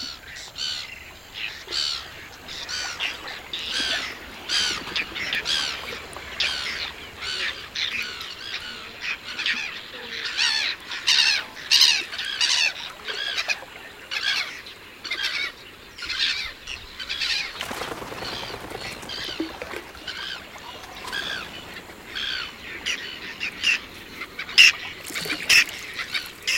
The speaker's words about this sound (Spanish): De nuevo en aguas libres. Navegamos entre los nidos flotantes de una colonia mixta de gaviotas reidoras y fumareles cariblancos.